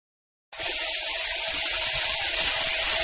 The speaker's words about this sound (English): First, turn on the tap.